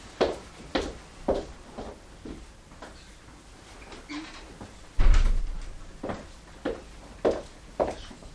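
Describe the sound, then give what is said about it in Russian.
A series of footsteps and light knocks lead up to a single heavy, booming thud of a door being shut, followed by a few more scattered steps and clicks. “Это мы у нас сейчас дверь закроем.”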